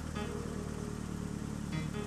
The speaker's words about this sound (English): Come, let's go for a ride in my brand new old car.